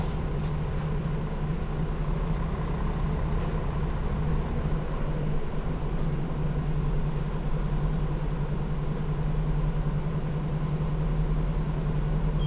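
A steady low engine drone hums continuously from inside a bus bound for Tobu New Town via Daihachicho, next stop Koriyama Station-mae 1-chome, with a strong bass tone and faint rattles, constant in level and without voices.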